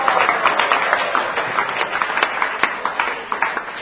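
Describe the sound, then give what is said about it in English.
A crowd claps and cheers for a Hare Krishna speaker in a dense, steady wash of noise, with sharper individual claps popping out now and then. It's fairly loud and sustained, with no clear speech. “So now you're cheering me, I should be happy.”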